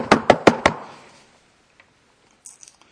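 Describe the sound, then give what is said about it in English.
Four quick, firm knocks on a door in a steady rhythm, loud with a short ringing decay, followed by silence and a couple of faint taps near the end. “You know, they're knocking on the door.”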